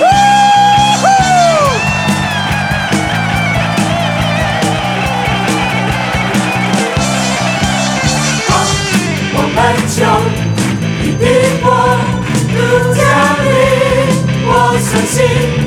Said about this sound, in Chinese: 让我们将我们的掌声欢呼归给我们的主，哈利路亚。